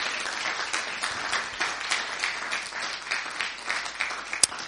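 A church crowd applauds a visiting minister steadily, a dense wash of many hands clapping at a moderate level with scattered sharper claps standing out, including one louder smack near the end.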